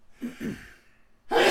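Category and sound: human body sound, sneeze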